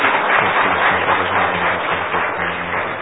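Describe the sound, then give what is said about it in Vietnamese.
An audience at a religious gathering claps steadily and loudly for about three seconds, a round of applause in thanks to God, a dense wash of many hands with no voices standing out. “Xin dâng lên Chúa một tràng pháo tay tạ ơn Chúa, cảm ơn Ngài.”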